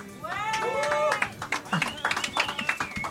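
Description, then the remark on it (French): An audience breaks into scattered clapping after a brief vocal sound, with irregular claps and a few voices or cheers mixed in. “Hein, amis musiciens, vous pouvez les applaudir, c'est eux qui parlent les plus forts.”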